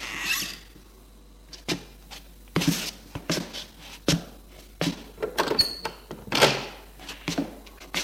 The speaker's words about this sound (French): À midi, l'on frappe à la porte. Xavier arrive à se lever pour aller ouvrir.